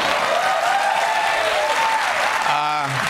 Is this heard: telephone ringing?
no